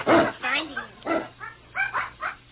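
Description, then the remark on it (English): A puppy barks in a quick run of short, high yaps and yips, about half a dozen bursts in a couple of seconds, some with a whiny edge. “That pup is sure a little glutton.”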